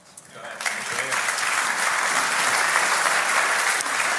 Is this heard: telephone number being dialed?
no